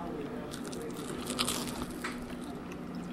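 A crisp crunch of teeth biting into a fried chicken gizzard at Joe's Gizzard City, followed by a few moist chewing and crackling sounds over a steady low background hum, with faint voices murmuring.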